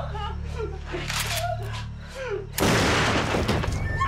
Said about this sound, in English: Charlie admitted shooting Bobby Jensen 6 times. Just bang, bang, bang.